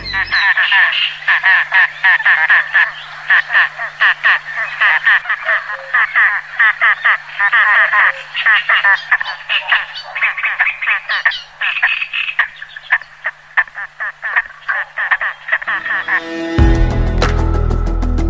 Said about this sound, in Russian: В негнездовое время птицы молчаливы, а вот в период ухаживаний, напротив, демонстрируют все свои певческие качества. Набор звуков у поганки очень богат.